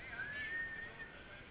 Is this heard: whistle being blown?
yes